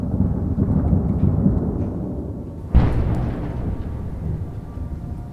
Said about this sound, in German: Es ist wieder eine dieser Nächte in der ukrainischen Hauptstadt. Russische Drohnen kreisen über Kiew. Die Flugabwehr ist aktiv. Stundenlang geht das so, bis in die frühen Morgenstunden.